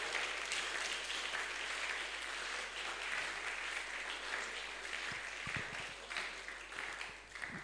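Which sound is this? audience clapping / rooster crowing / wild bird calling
audience clapping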